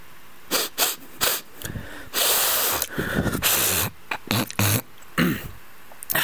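human body sound, sneeze

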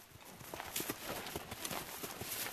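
animal, horses walking

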